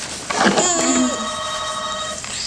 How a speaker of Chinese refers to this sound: 又有电话